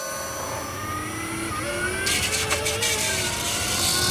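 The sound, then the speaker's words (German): An electric T6.1 van with a 37.3 kWh battery and 83 kW drive accelerates with a rising, singing whine from its drive, thin tonal lines climbing steadily in pitch over a steady rumble of road and motor noise, with no one speaking. “Wir hören nochmal kurz rein in eine Soundaufnahme bei Beschleunigung des Fahrzeugs.”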